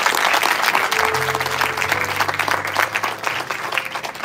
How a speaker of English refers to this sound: Thank you for the worship. Amen. If you would enjoy, yeah, give them a hand clap. That's okay.